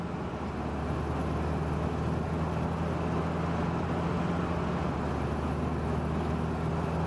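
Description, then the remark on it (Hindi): A steady, continuous low rumble fills the cabin of a moving vehicle, with a constant drone and broad hiss that stays even and unbroken throughout, with no voices. “ये गाड़ी सोने की जगह नहीं है।”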